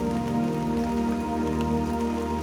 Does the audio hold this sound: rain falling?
yes